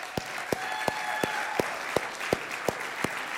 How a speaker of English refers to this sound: Thank you for your service. Would you stand? We want to recognize you with an applause of gratitude.